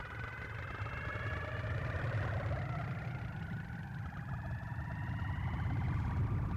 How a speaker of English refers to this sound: That one is … Traffic Sacks, hooked up so you can hear what the traffic sounds like on Route 23 in Accra. Right now there's an old-timey car passing.